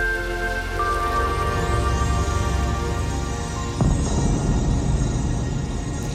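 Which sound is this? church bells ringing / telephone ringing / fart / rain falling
rain falling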